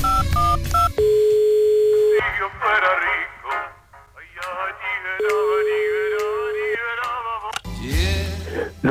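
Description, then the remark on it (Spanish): A telephone number is dialed: a quick burst of touch-tone keypad beeps, followed by long steady ringing tones on a phone line, with voices talking between the rings. “Estamos ya marcando ese teléfono.”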